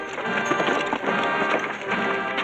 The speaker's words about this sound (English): Bring this horse on in.